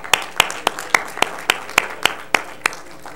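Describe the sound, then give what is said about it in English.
A church audience claps hands in a steady, even rhythm, about a dozen sharp, crisp claps in unison at a brisk pace, moderately loud with no voices over them. “I think that deserves a hand clap again, once again.”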